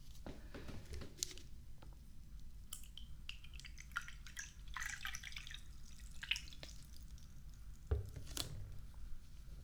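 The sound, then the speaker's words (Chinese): Water splashes and trickles in uneven bursts as it is poured into a cup for a visitor at home, with scattered drips and clinks over a low steady background hum. No one speaks. “进来吧，随便坐，我去给你倒水。”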